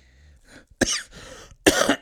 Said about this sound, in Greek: Αμάν αυτός ο Βήχας, παιδιά, μας έχει σαρώσει ένα κρυολόγημα.